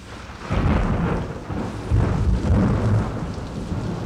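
Low, heavy thunder rolls in waves over a steady hiss of falling rain at night, swelling loud twice before easing back to a rumbling murmur.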